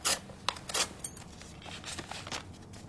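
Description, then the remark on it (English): A paper knife slits open the envelope of a letter: a series of short, dry rasping tears in quick succession, fairly quiet, with no voices. “If you would be so kind as to pass me over that paper knife.”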